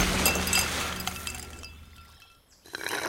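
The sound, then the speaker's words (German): Ice cubes clink and rattle into a glass of lemonade, a cluster of bright tinkling knocks in the first second that fades to quiet before a faint stir at the end. “Willst du noch mehr Eiswürfel”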